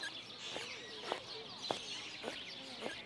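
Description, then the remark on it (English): A woman's squeaky shoes give five soft, evenly spaced squeaks with each footstep as she walks at a steady pace, fairly quiet against a faint chirpy background. “Did you just hear what I heard? That woman has squeaky shoes.”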